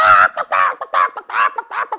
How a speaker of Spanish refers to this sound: Comenzó a cacarear tan fuerte y se puso tan roja y se desplumó completa que todos los demás animales se quedaron asustados.